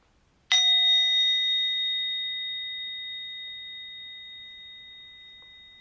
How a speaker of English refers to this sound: And with the sound of the bell, we will end this meditation.